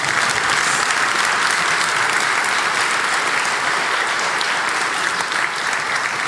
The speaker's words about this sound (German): Einfach nur für den Vibe, aber Applaus für das Backoffice bitte.